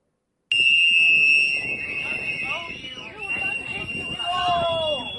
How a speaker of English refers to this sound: You hear those whistles.